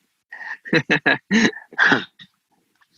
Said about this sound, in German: Da bellt sogar der Hund im Hintergrund, ja? Da bellt der Hund. Bekräftigt.